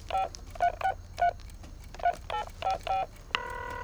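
A quick series of about ten electronic keypad beeps as a phone number is dialed to call a daughter, short tones in an uneven rhythm, followed by a steady higher tone at the end.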